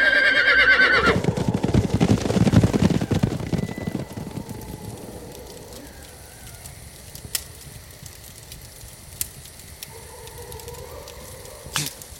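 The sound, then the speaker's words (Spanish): A horse lets out a loud whinny at the very start as equipment is hastily packed and a person is loaded onto it, followed by a rush of rough, rain-like noise that settles into a quiet background broken by a few sharp knocks. “A toda prisa guardamos los equipos y cargamos a Nima en su caballo.”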